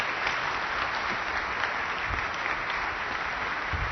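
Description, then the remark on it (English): Steady applause from an audience for a woman, a dense, continuous clatter of many hands clapping at an even level for several seconds with no voices standing out. “Let's give her one big more round of applause.”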